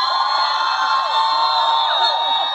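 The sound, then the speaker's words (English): A large crowd cheers loudly and steadily in response to a speech warning Justices Gorsuch and Kavanaugh they will pay the price, a dense wash of overlapping voices with scattered whoops that rise and fall in pitch, sustained for the whole moment with no single speaker standing out. “And those kookalas, all of them, cheering for that?”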